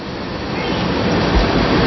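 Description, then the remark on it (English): A loud, long train rumbles steadily past during a baseball game, a continuous heavy roar with deep low-end rumble that holds strong and slightly builds without letting up. “And not only is that train loud, but it's long. It's still going.”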